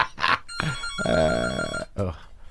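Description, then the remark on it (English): A telephone rings loudly in a single sustained burst, with brief bits of voice just before and after the ring. “I don't even know who they were calling, but they called this phone on purpose to talk to me.”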